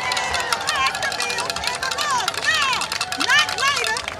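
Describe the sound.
A large crowd of demonstrators, including gun violence survivors, shouts together outside the Capitol, loud and continuous, with overlapping calls rising and falling in a rally-like chant for Congress to pass gun safety legislation.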